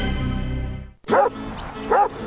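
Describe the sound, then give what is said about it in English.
Dogs bark twice, loud, in two sharp bursts about a second apart, right after a short sustained tonal sound cuts off. “I wish these dogs would sleep in for once.”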